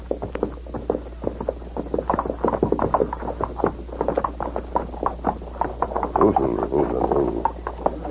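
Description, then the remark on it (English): Many horses' hooves clip-clop steadily at once, a dense, overlapping patter of strikes that continues the whole time at moderate volume, like a group riding past; the riders are a posse passing through trees. “You hear something. I do too now. I would like several horses.”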